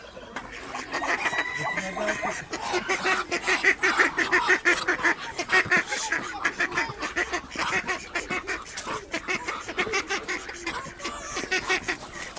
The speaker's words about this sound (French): Là, on a pu observer le bruit des différents canards. Ils ont des moyens de communication différents. Donc là, nous avons trois races, des mulards, des barbaries et des colverts. Et ils ont chacun une méthode de communication bien différente.